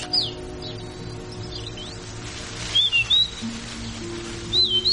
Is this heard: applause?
no